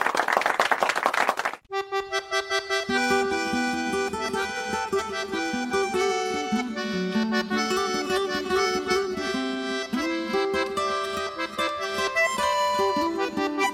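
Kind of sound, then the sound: crowd, applause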